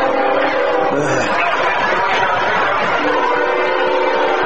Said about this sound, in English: As a CSX flies through Booster Field, sounds like it's running right down the middle of the gridiron. Well, I'll tell you what, it's only about maybe 30 yards behind us.